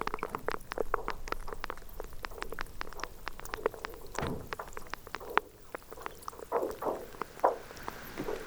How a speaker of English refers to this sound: you're hearing the groaning of icebergs as they either turtle or flip over or rub up against each other